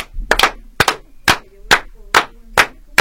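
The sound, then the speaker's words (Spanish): A series of eight sharp, loud claps in a quick, steady rhythm, each a crisp burst followed by a short silence, with no talking; eight claps given for the octopus on International Octopus Day. “Tenemos que darle 8 aplausos al pulpo.”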